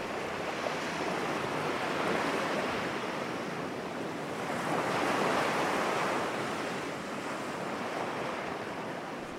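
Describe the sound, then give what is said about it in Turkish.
Steady, gentle surf of the calm Black Sea washes continuously with a soft breeze rustling across the microphone, swelling slightly mid-way before settling again, heard while travelling on the water under a clear, cloudless sky with a light wind; no voices. “Hava açık, gökyüzünde bulut yok, rüzgar hafif esiyor, sakin bir denizde yol alıyoruz şu an.”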